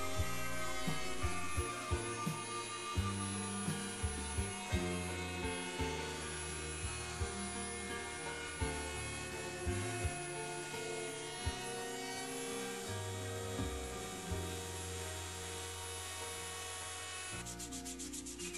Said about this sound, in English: If the plan allows, you can use a router to round off the inside pattern.